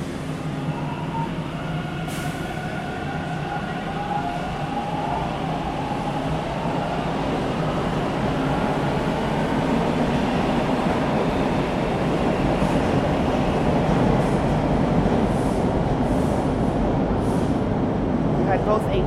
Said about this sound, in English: And a westbound train departing Ossington this morning. So you got it from both sides.